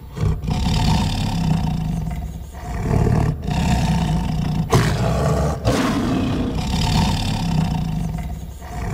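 A tiger roars loudly in several long, rumbling bursts separated by brief pauses, with no talking.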